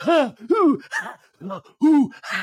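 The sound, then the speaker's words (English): A voice imitates Sandoval panting on the floor during a breathing meditation exercise: about six loud, voiced, groaning breaths in a quick, steady rhythm, with no other sound around them. “And Sandoval is panting on the floor.”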